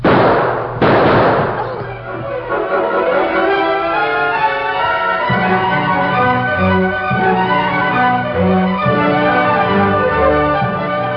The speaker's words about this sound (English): Those who lived near Barton's house heard the first shots and the screams. A moment later, there was a tremendous burst of gunfire.